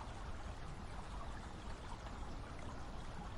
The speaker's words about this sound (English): And it's appropriate today, a rainy, rainy day here in the Hudson Valley.